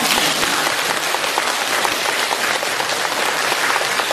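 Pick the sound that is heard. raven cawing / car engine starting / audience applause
audience applause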